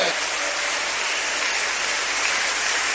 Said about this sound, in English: Now if you are clapping for Jesus, you should do it very well. It's not begging you to clap, but because your hands are still there.